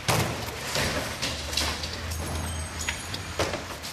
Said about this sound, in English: workers hurled doors, cabinets, and broken wallboard out seven-story windows into dumpsters.